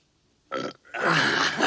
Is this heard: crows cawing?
no